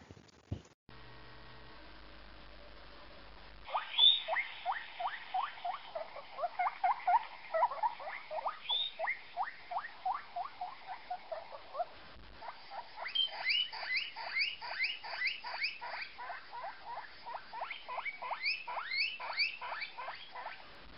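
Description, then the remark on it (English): A guinea pig makes a steady run of rapid rhythmic purring pulses with bright squeaky edges, pausing briefly midway before resuming just as busily. No one speaks. “Guinea pigs are extremely vocal animals and can make a wide range of sounds, from low purring sounds to high-pitched squeals, which are commonly heard at feeding times.”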